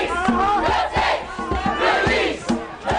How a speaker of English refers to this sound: The sound of a crowd chanting today.